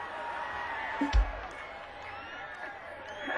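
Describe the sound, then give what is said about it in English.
A man in a live concert crowd shouts and whoops over a murmuring audience while a singer performs, with a brief loud bump partway through and the chatter continuing throughout. “Primarily, this song, and this guy keeps screaming down here, I'm gonna come up with side to head.”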